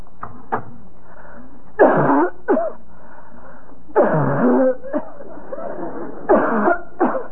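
Harsh, repeated coughing in several bursts over a few seconds, fairly close and loud, with short quiet gaps between the fits and no talking.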